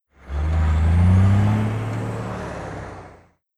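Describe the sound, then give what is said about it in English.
A heavy truck rumbles for about three seconds, its deep engine droning and swelling loudly before fading out, with no voices present. “It's a truck.”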